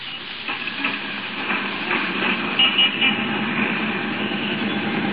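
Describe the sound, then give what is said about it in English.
A moving number 5 bus hums and rattles steadily, with a continuous broad rush of engine and road noise and a few faint clanks, heard from the top deck with no one talking. “Riding home like this on top of a bus?”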